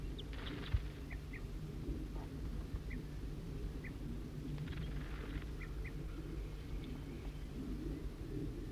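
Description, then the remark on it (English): A bird gives sharp, repeated alarm calls, short chips spaced every second or so, fairly faint over a steady low rumble of wind or outdoor background noise. “Somebody's giving alarm calls.”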